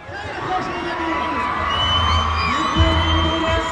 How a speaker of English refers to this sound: Throngs of young Lebanese lining the airport road here screamed as if they were at a rock concert when an announcer bid the Iranian president a hearty welcome in his native Persian.